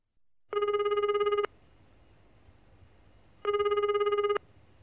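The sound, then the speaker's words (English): A phone ringback tone sounds twice while calling a pizza restaurant to order pizza, each burst about a second long with a steady warbling pulse, separated by a pause of quiet background hum; no one speaks. “Okay, I'll phone them now.”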